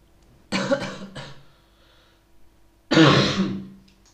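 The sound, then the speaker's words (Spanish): A loud throat clearing and rough coughing come in two bursts with a short quiet gap between them, no speech, just the harsh raspy sounds. “Yo del futuro, acuérdate de cortar todas estas veces que estoy tosiendo, por favor.”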